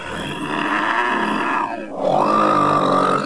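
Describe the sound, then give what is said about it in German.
Loud, rough snoring of the wolf from Little Red Riding Hood lying in bed in the grandmother's cottage: a long rasping breath that sinks in pitch, a brief pause, then a second drawn-out snore with a steady nasal whine. No one speaks. “Da ging gerade der Jäger an dem Häuschen vorbei und dachte bei sich, wie laut die alte Frau nur schnarcht.”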